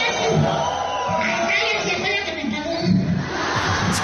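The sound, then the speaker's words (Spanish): A large crowd at a political event in Tlaxcala boos and jeers loudly and continuously at governor Lorena, a dense wall of shouting voices with no pauses, sustained for the whole few seconds. “No la abucheen, cállense, ella es la que me pagó.”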